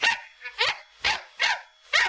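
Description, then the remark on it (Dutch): A small dachshund barks five times in quick, steady succession, sharp yappy barks with short silences between them and no one speaking. “U kent wel die hondjes met die te korte pootjes. Nou zetten we een hondje, zetten we hier dus neer.”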